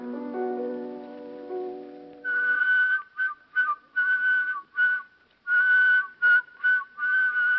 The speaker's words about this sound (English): I believe, though, that I'm the only person who can do whistling in counterpoint. You mean whistle two different melodies at the same time?